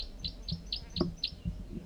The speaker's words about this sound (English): And then one male, that's him, is above me now. He gave a flight song similar to that song he's giving now. Wild male. Stop. Start. Bird 4-3 gives calls.